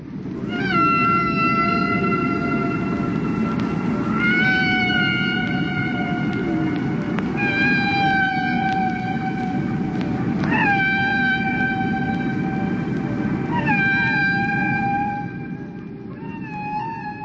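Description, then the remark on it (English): Humpback whale song: long, eerie tonal calls with rising, wavering pitch, repeating in phrases every few seconds over a steady low underwater rumble, with no voices. “that was taken from an a cappella collection entitled …”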